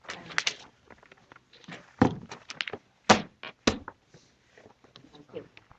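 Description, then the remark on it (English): A chair is pulled up to a table at a committee hearing and set down with several dull, uneven thunks and short scrapes, a few louder knocks standing out, while faint murmuring voices continue underneath. “Would you like to just pull up a chair?”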